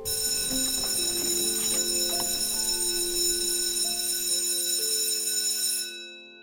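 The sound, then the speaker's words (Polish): A school bell rings loudly and continuously for about six seconds with a harsh, metallic jangle, then cuts off and fades quickly. No one speaks. “Dobra, dzwonek!”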